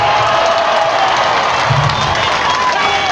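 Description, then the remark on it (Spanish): A large crowd cheers and applauds steadily for Rubén Rocha Moya, candidate for the Senate of the Republic, at a political event in Sinaloa, Mexico: a dense wash of clapping and shouting voices at a constant loud level, with no single speaker standing out. “Fuerte el aplauso para nuestro candidato al Senado de la República, el doctor Rubén Rocha Moya.”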